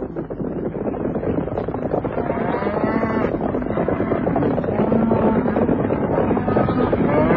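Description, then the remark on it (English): Several cattle, the natives' cattle taken by Grogan and Sharp, moo in long, overlapping calls over a steady rumbling, wind-like background, the lowing growing fuller and louder toward the end. “So Grogan and Sharp simply stole from the natives their most valuable possessions. Their cattle.”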